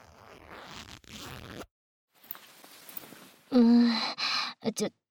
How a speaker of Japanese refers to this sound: ほら、ズボンのチャック、下ろすぞ。